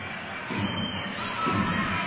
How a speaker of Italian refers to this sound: C'è uno sparuto gruppetto di tifosi di Siena che ci sta facendo sentire intanto dall'altra parte della nostra postazione.